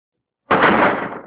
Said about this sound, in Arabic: ثم أغلق الله الباب